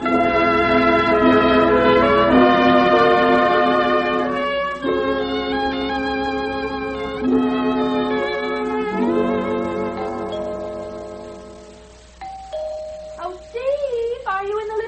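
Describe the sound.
A doorbell rings with a long, musical chime, several sustained ringing notes played in sequence like a short tune, fairly loud. It fades out and a voice begins speaking.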